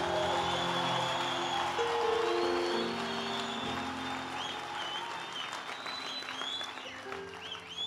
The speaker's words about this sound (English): You see, even though you're clapping hands, show that you're not serious, you see?